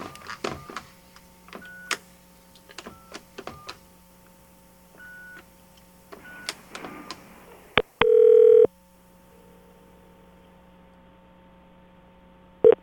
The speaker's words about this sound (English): I'm going to get him on the phone. Okay. Okay, here we go. Calling him up.